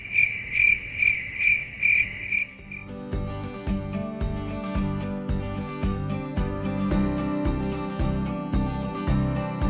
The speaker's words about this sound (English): They're in Nevada right now. Well, I guess they all went gambling. Big convention. Yeah. It's a cricket convention.